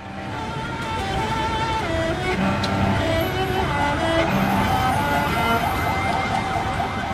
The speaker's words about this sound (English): Captured here in a cell phone video, which you can find on YouTube, you can see a bombed out building, emergency workers, you can hear sirens and traffic in the background.